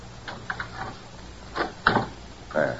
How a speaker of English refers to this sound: I'll open the door. But how? I always carry skeleton keys.